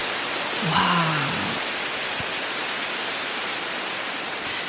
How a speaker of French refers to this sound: Oh, un bâton de pluie? Mais qu'est-ce donc? C'est ça, c'est comme pluie.